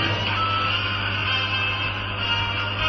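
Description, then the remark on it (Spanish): A mobile phone on the Game Over programme gives off a steady, unbroken electronic buzz with a low hum underneath, holding an even level for the full three seconds with no talking. “Es un placer contar con la presencia del móvil de Saeva. Lo oís, ¿no?”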